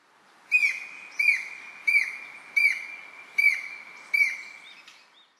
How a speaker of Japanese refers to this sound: オオタカです。